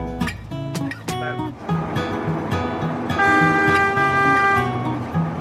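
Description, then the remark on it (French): An autoferro rail bus (a bus converted to run on rails) in Ecuador sounds a long, steady horn blast over the continuous rumble of its engine, with shorter tonal toots and mechanical clatter before it, all loud. “Vous êtes monté à bord d'un train-bus autoferro et vous êtes allé tout naturellement discuter avec le chauffeur.”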